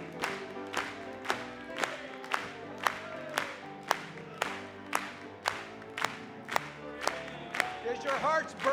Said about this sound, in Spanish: Vamos a aplaudirle.